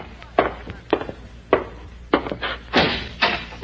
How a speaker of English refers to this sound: Close the door